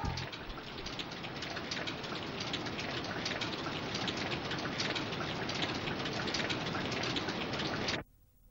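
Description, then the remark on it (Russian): Steady, dense rain pours down in a loud, continuous hiss with patter on a surface, lasting about eight seconds before cutting off abruptly. “Дождь идет!”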